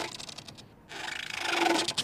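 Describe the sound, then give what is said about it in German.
Air-filled plastic boat fenders, the shock absorbers between anchored ships, squeak and creak as they rub with each rise and fall: a rasping, pulsing friction sound that briefly pauses, then swells into a louder, higher-pitched squeal. “Es sind Fender, die luftgefüllten Stoßdämpfer zwischen ankernden Schiffen, die jedes Auf und Ab hörbar machen.”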